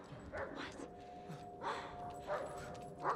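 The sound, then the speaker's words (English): A dog running on a sidewalk across the street yips and barks in a few short, sharp bursts spaced about a second apart, over a low background hum with no one speaking. “Across the street, a dog runs on a sidewalk.”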